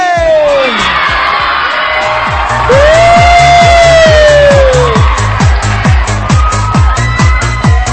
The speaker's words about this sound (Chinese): 那么今天晚上在这里，我想听听全场的宝贝，你们的尖叫声有吗？